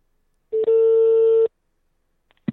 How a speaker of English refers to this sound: Kevin has it in the phone and ready to go. And he's now dialing.